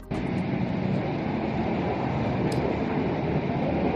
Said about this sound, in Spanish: Es este el sonido de un carro minero o vagón minero que se volteaban de manera manual.